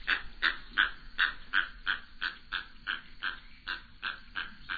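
A little blue heron gives a rapid, steady series of about a dozen harsh, raspy squawks, each short and gravelly, repeated at an even rhythm with no voices present.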